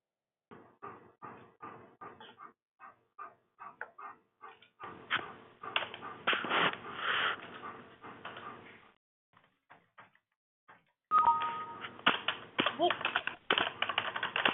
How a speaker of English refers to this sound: I hear a few people typing, so I might just give that a minute more.